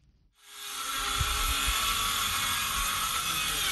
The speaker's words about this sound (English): The roar of power drills fills the air in the village of Guidemartin, a typically quiet community of 2,000 people located some 100 kilometers from the Senegalese capital of Dakar. It's an unusual sound to behold in a village with no electricity,